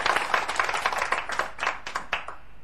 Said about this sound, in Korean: 박수.